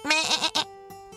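A billy goat, Little Billy Goat Gruff from the tale of the three billy goats Gruff, bleats once, loud, its quavering cry breaking partway through before trailing into a faint, steady tone.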